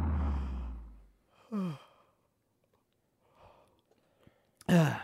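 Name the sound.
people yawning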